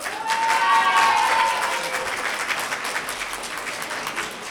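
An audience applauds the students of Jacques Callot school during a contest, in a steady, dense wash of clapping, loudest at the start and easing slightly, with a few whistles or cheers rising briefly over it early on.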